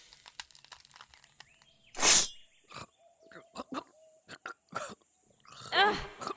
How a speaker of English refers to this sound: Rude! Coughing in my face like that?